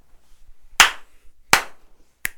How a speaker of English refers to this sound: Two slaps. Two ois. And then another slap. Another slap, snap. And then another and then and then two ois.